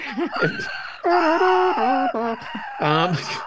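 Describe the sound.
A person imitates dinosaur screams: several loud, strained, wavering shrieks and roars in quick succession, the pitch bending and trembling, with no spoken words.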